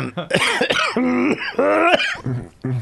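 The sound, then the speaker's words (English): A deep, raspy voice performs a series of exaggerated heavy coughs and throat-clearing bursts in imitation of a mafia don, loud, with short gaps between each hacking burst. “Excuse your fucking me. Mafia Don cough.”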